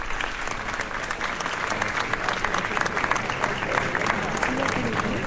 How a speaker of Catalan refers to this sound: que en aquests moments li estan entregant ja damunt del cavall i també al costat de la imatge de Sant Antoni, els aplaudiments de la gent.